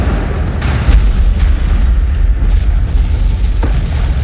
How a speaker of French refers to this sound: Enfin, notre armée obtient des résultats avec les bons vieux canons.